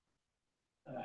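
A single sudden sneeze bursts out loud after a near-silent stretch, a sharp explosive blast of breath that cuts off the quiet.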